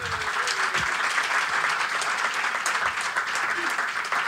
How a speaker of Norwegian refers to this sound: Stor applaus for han kødden der.